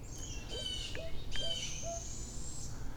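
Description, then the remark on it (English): Several owls call outdoors, mixing short hoots with higher quavering whistles that overlap and repeat across the moment, set against a steady low rumble of background noise. “Oh, I love being invited to the owl party.”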